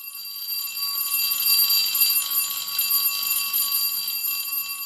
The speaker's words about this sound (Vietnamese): Chuông báo 10 phút trước giờ học vang lên tiếng đanh và gay gắt.